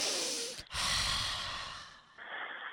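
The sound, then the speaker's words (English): Heavy, noisy breathing into a phone, with a sharp snorting inhale, a brief pause, then another long rasping breath, loud with no talking. “Yes, breathe.”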